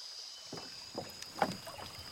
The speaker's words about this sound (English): Grover climbs in a boat and paddles along a calm and twisting river. His boat is long and just wide enough to sit in, and perfect for floating along the river.